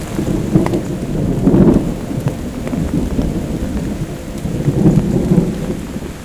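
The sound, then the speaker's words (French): Deep rolling thunder booms twice, swelling and fading over a steady hiss of falling rain during a light thunderstorm. No voices. “Les éclats du tonnerre.”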